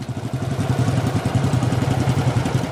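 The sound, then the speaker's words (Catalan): A Harley-Davidson motorcycle engine runs during a weekend ride in Lebanon, its deep, rapid, even thumping holding steady throughout with a rough mechanical clatter on top and no voices. “Excombatents, amics i des de fa 20 anys socis del club de Harley Davidson al Líban.”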